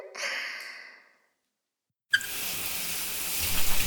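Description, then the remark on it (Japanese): A soft breathy vocal sound fades into a second of silence, then shower water bursts on abruptly as a steady, broad hiss of spray that keeps rushing to the end, rinsing the hair of a person seated on a chair before a shampoo. “シャワーで流していきまーす。”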